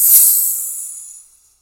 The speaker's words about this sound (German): Und in dem Moment, wo es interessant wird, kommt der vorher angekündigte Intercity vorbeigerauscht. Und geht das nur so. Wusch, wusch, wusch, wusch, wusch, wusch, wusch, wusch, wusch, wusch.